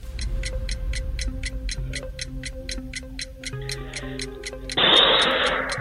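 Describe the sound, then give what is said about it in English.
A quiz-style countdown clock ticks steadily and rapidly over a tense musical bed of low tones, ending with a bright, loud burst of sound near the end. “Clock is ready.”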